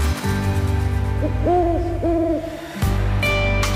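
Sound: owl hooting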